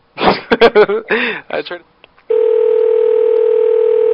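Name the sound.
phone hung up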